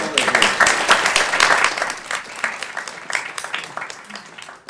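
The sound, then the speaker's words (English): An audience breaks into loud, sustained applause for a group of art gallery owners and arts representatives being recognized, many hands clapping in a dense, crackling wash that holds steady before thinning slightly toward the end. “What a round of applause for this.”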